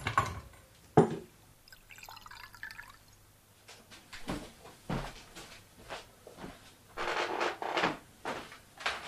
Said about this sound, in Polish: Piję wodę, nalać ci? Nie, dziękuję. To naleję.